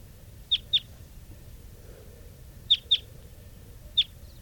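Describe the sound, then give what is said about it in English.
Birds 395 and 387 give short, high-pitched chirping calls, mostly in quick pairs and once singly, spaced across a few seconds over a low, steady background rumble. No one speaks. “395 and 387 calling here.”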